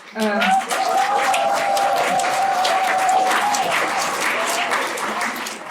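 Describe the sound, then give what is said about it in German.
Steady, dense applause from a crowd at a meeting of the Omas' European forum, a continuous patter of many hands clapping for the current women speakers for several seconds, with a sustained voice or tone carrying through the middle. “Manche Omas machen sich eifrig Notizen und immer wieder gibt es bestätigende Zwischenrufe oder Applaus für die aktuellen Rednerinnen.”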